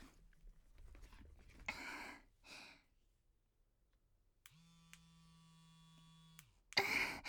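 electric vibrator buzzing

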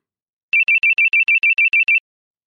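signal or alarm, mobile phone ringtone

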